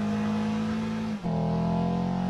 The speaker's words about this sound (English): Now switch to sport mode. It offers quick response and more agility. It also enhances the natural sound of the engine.